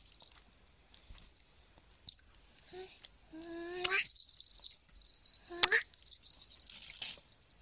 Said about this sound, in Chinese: 自己是掰不动的，我要咬一口。他咬个小口口，他咬个小口。